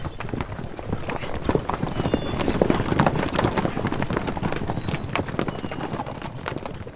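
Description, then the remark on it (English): Several horses' hooves clip-clop in a busy, overlapping, fairly loud clatter for the whole stretch, like a group riding off together at a brisk pace. “Laura went to the door, followed by Caleb Glover, and stood watching as he got on his horse and jerked the animal's bit savagely.”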